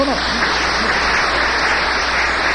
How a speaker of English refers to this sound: No. Oh, don't clap.